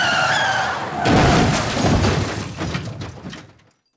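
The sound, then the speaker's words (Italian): An Alfa car travelling at nearly 200 an hour skids, tires squealing sharply for about a second, then slams into a nearly stopped car manoeuvring onto a state road: a loud crash with shattering glass and crunching debris rattling and fading out over the next few seconds. “Quell'Alfa che viaggia a quasi 200 all'ora lo colpisce come una palla di cannone. L'impatto è devastante.”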